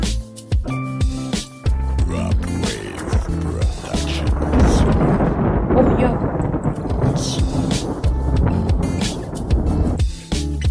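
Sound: thunder rumbling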